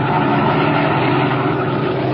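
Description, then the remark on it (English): A black sedan's engine hums as it slows down along a road: a steady, even drone, with a dense low rumble and road noise holding at a constant loudness throughout. No one speaks. “As our story continues today, we find him and his henchman Spike in their black sedan, slowing down along the road and searching for a likely place for what Dinelli has in mind.”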